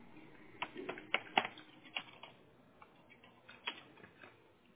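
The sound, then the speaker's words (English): Irregular clicks of keys struck on a computer keyboard as a Google search for auto insurance in Fullerton is typed, coming in short uneven bursts with brief pauses, fairly quiet, with no one speaking. “Why am I not typing?”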